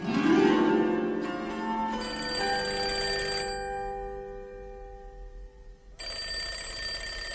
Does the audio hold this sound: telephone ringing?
yes